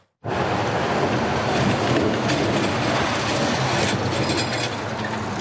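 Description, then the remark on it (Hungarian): A heavy truck drives along a side road in Jász-Nagykun-Szolnok county, Hungary, its engine and tires producing a loud, steady rumbling roar that starts abruptly and holds for several seconds, with no voices. “Egy mellékúton megy ez a kamion, itt nem kell elektronikus útdíjat fizetnie.”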